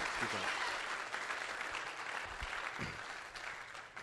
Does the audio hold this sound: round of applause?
yes